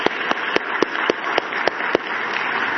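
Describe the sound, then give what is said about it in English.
An audience at Bear Creek Bible Church applauds with a dense, steady wash of clapping to welcome guests, and a few sharper claps cut through at a fairly regular beat. It holds at an even level for the whole stretch, with no talking. “Let's hear it for those ladies.”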